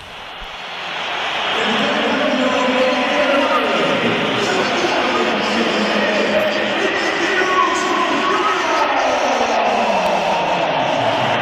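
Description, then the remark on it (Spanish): A large stadium crowd at the Bernabéu whistles and roars as Vinicius leaves the match in a substitution, with scattered applause mixed into the dense, loud wall of noise that swells up within the first two seconds and holds steady. “Mira, o vamos a oír los pitos también a Vinicius cuando se iba del partido.”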